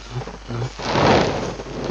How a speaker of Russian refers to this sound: Видишь? Взрывы. Мы уже близко.